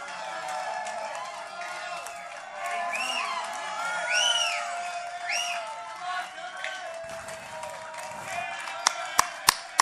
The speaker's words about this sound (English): Let's hear it for the …. Give them a round of applause, folks.